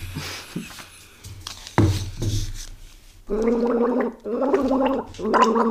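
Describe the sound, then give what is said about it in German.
Someone gargles water in a pitched, wavering tone, humming a song melody through it for others to guess in a song-guessing game, in three bursts separated by short pauses, after some soft splashing and clinking. “Welches Lied müssen gurgeln?”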